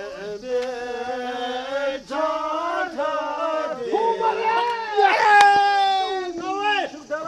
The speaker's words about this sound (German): Auf einer Lichtung am Stadtrand der Hauptstadt Thimphu. Lauter Jubel ist zu hören. Es ist Sonntag und viele Bhutaner treffen sich zum Kurdu, neben Bogenschießen, der Nationalsport des Landes.